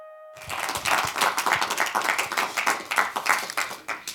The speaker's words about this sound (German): dein Applaus und wohlverdient, denke ich. Wir probieren das nachher nochmal auf Stadionlautstärke hochzukriegen. Dankeschön, auf jeden Fall. Aber das ist für einen Filmsaal schon wirklich wunderbar.